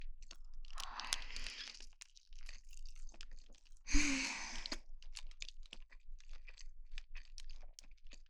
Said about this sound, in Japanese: ちょっとあと4口ぐらいなので黙って食べます。じゃあ黙って食べるので、咀嚼音が好きな人用にここら辺で食べます。